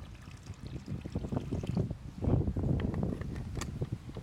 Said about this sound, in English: I need to actually soak this for a little bit more because I goofed. Oops. Let me. We got some more water here. That is water.